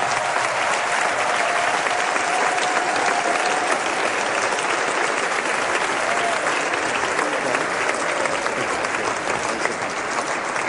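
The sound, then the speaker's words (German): Sustained applause from a sizable audience welcoming a guest, steady and loud for the full length, a dense wash of clapping hands with no pauses or talking over it. “mit einem großen Applaus dürfen wir dich in unserer Mitte willkommen heißen.”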